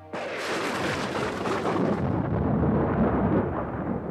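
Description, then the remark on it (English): A loud crash of thunder over a house during flashing lightning bursts in suddenly, then rolls on as a dense, rumbling roar that darkens slightly as it continues, with no voices present. “Lightning flashed and lit the library. Thunder crashed over the house.”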